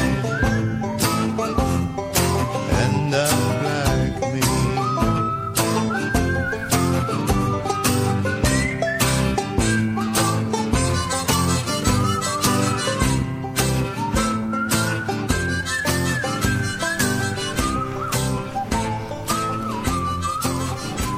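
A full, steady music track with a bright whistled melody riding over a driving beat and dense instrumentation, loud and continuous throughout with no speech.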